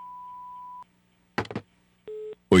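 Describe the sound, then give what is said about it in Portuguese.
A long, steady high-pitched beep like an answering machine tone sounds over a low electrical hum, followed by a brief clatter, a shorter lower-pitched tone, and a sudden loud burst at the end. “Posso atender agora, mas deixo o seu recado depois do bip.”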